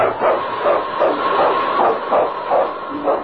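King, a husky lead sled dog of the North Country in the Yukon, barks over and over in a steady, rapid rhythm, about eight sharp barks in a few seconds, fairly loud, with a thin, muffled old-radio quality and no talking.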